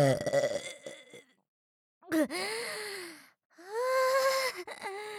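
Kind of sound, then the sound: human body sound, loud burp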